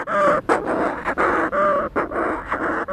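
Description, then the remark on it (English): Raucous, crowing calls of Manx shearwaters repeat in rapid, breathy bursts, several overlapping birds cackling and gasping with only brief gaps between cries, on Great Blasket Island, a rocky island off the west coast of Ireland, where thousands gather before their annual migration to South America. “From the west coast of Ireland, there is a rocky speck of land out there known as Great Blasket Island, and every year, thousands of Manx shearwaters gather there before their annual migration to South America.”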